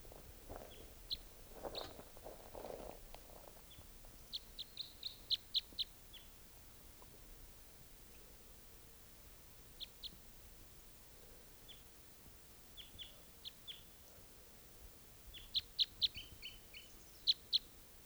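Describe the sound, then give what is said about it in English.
A wild bird calls repeatedly near hunting decoys set out about half an hour earlier, with short, high chirping bursts in scattered clusters, fairly faint over a low background hiss, with a soft rustling murmur early on. “I've got the decoys out, and they've been out for about in half an hour, and there's at least one wild bird here still.”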